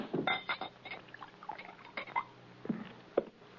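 A drink is poured into a glass inside a wagon used as a home, with a few light clinks of glassware over a soft liquid trickle, fairly quiet, with no one speaking.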